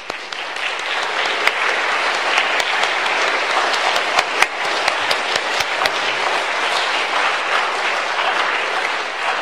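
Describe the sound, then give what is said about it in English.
Steady, sustained applause from a large crowd for standing homeschooling mothers, a dense wash of many hands clapping at once with sharp individual claps popping out, holding at full loudness for the whole stretch with no voices. “Could we ask the moms just to stand for a moment and give them a round of applause?”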